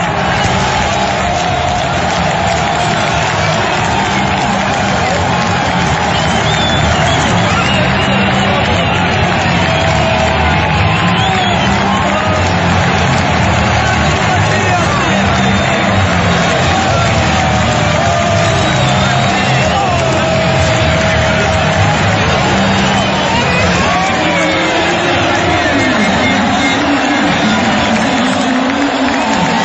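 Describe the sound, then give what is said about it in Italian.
The stadium crowd at the Barbera in Palermo roars and cheers without pause after an own goal by Terranova made it 2-1, a loud, dense wall of voices with scattered shouts and whoops rising over the steady din for the full half minute. “ascoltiamo insieme le emozioni del Barbera di ieri dopo l'autogol di Terranova che ha sancito il 2-1.”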